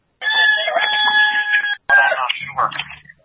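A chicken clucks and squawks loudly, starting with a long, strained tonal call, then a brief pause and a few shorter, choppier calls that trail off.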